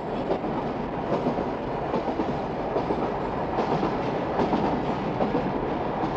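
A metro train rolls steadily along the rails, a continuous loud rumble with faint rhythmic clatter of wheels, with no voices.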